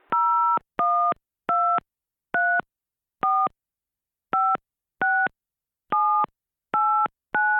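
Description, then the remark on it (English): Telephone keypad tones as a 10-digit phone number followed by a PIN code is entered: about ten short, clear dual-pitch beeps, each a different note, pressed at a steady but slightly uneven pace with silence between them. “Please enter your 10-digit phone number followed by your PIN code.”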